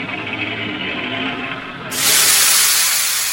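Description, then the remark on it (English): A low, steady rumbling noise gives way about two seconds in to a sudden, deafening hiss as a cylindrical object that came through the sky slowly begins to open, the hiss staying loud and steady to the end. “With a deafening hiss, the cylinder begins to open, slowly.”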